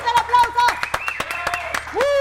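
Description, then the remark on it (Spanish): Scattered, uneven hand claps of applause for an invited guest ring out for a couple of seconds while voices call out and whoop loudly over them. “Fuerte el aplauso.”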